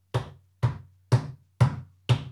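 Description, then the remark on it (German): Five evenly spaced, thudding knocks or taps, about half a second apart, mimicking slow footsteps. Each hit is fairly loud with a short decay, and no one speaks. “Ja, aber du hältst jetzt mal den Mund und du hörst jetzt die Schritte, hörst du schon.”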